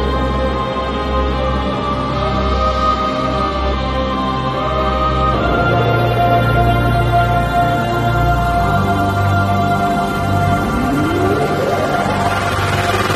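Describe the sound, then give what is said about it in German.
A short musical jingle plays on its own at a steady, full level, with layered sustained tones, a change in chord partway through, and a rising swoop near the end. “Wir spielen den Jingle und dann sehen wir uns und hören wir uns gleich wieder.”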